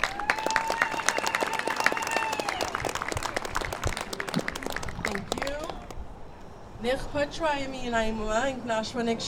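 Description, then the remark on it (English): A crowd at a gathering in Mosier applauds a speaker from the Warm Springs Tribal Council with dense, steady clapping for several seconds, a sustained high cheer or whistle rising over it at first; the clapping fades as a single voice begins talking. “So please give up a big round of applause.”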